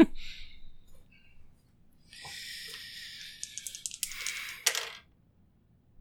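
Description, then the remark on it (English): A few seconds of dice rattling and tumbling across a hard table for a luck roll in a tabletop game, ending in a cluster of sharp clicks as they settle, with no voices over it. “Make me a luck roll before your turn.”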